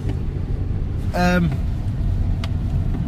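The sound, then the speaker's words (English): Steady low rumble of road noise from inside a moving 2002 Toyota Avensis courtesy car with 210,396 miles on the clock, constant throughout, with a brief high, whining squeal partway through before the drone carries on. “So suspension, it's like driving a waterbed, steering wheel's half cocked over to the right.”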